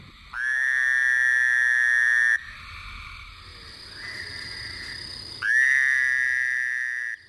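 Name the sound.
fowler's toad call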